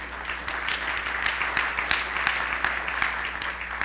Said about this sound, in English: Roma Lee Covasir set up a memorial fund in her, you can clap for that.